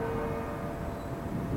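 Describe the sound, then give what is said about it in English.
The Bourneville Carillon on Bourneville Village Green, near its small octagonal visitor centre, rings out striking nine o'clock with a sustained, humming bell tone that lingers at a steady level amid a faint background rumble, with no voices. “Should just get 9 bongs now for 9 o'clock.”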